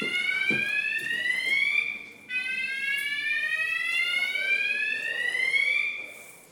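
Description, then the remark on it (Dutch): A fire alarm blares continuously with a harsh, high electronic tone that rises and sweeps, briefly cutting out around two seconds before resuming loud, set off as a dish is finished cooking, with no actual fire. “Elke keer als we een gerecht afmaken, dan gaat het brandalarm af.”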